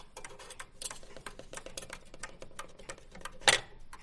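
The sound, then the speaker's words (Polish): The gong strike release mechanism of a mantel pendulum clock with a 12-centimetre pendulum clicks and ticks in quick, irregular succession, ending in one sharper, louder mechanical snap near the end. No voices. “Także no, będzie chodził, no i tutaj no, spust działa normalnie. No. Spust gongu.”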